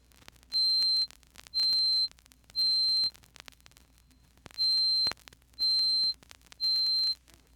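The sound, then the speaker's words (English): A very high, piercing pure test tone near the top of the piano range sounds in six steady beeps of about half a second each, evenly spaced, clear and moderately loud with no talking. “Doubling this twice more to 4,186 cycles per second, we reach C sub 8, which forms the highest note on the piano.”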